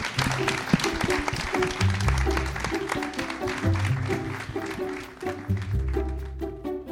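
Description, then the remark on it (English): An audience claps steadily for a discussion panel in a dense, continuous patter, with a bassy musical line playing underneath; the clapping thins out toward the end as the music carries on. “Let's give a big round of applause for these wonderful folks.”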